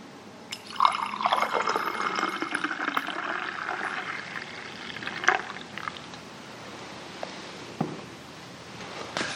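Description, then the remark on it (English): Liquid is poured into a communion cup during a church communion service in a steady stream lasting several seconds, with a few soft drips and splashes near the end; no one speaks. “I invite you to see Jesus in this poured out cup.”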